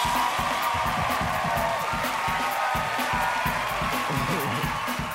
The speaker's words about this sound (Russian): Какие аплодисменты! Не ждал сорвать такие овации.